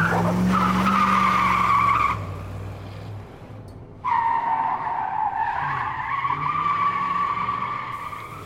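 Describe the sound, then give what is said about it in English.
A car's tires squeal loudly through two long skids, one followed after a short pause by another, over the low roar of a racing engine, as the car speeds through turns to catch up with another car. “Watch those turns”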